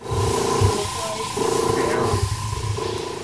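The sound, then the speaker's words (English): Steady, loud hissing of fist-sized airbrushes spraying paint as art students paint small circles or straight lines on large pads of paper, coming in three sustained bursts separated by brief dips, with a faint humming tone running underneath. “They're trying to mimic the smooth and steady, relaxed paint spraying technique that's being demonstrated”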